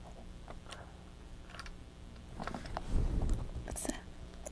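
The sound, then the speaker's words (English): Chewing on a plastic toy food item: irregular hard clicks and taps with a brief grinding, crunchy stretch in the middle, fairly quiet and without any talking. “You would like chewing on the plastic food, wouldn't you?”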